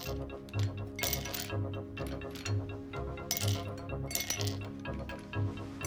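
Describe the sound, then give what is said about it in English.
Ando drops ice cubes into a glass in a hotel room, clinking and rattling in several bright bursts, with a low steady hum running underneath throughout. “Ando drops a couple of ice cubes into a glass.”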